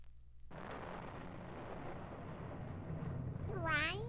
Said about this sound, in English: Thrice the brinded cat hath mewed.